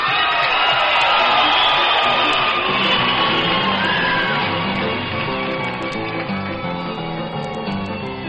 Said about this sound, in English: You all was clapping so loud I couldn't hear the boys take it off.